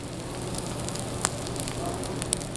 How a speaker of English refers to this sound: A 25-ounce grass-fed bone-in filet sizzles on the grill at Anton's taproom